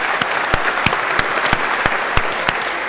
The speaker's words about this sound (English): I have totally enjoyed this amazing LCA experience. Can we just have a quick round of applause for those fantastic organizers and their hard work?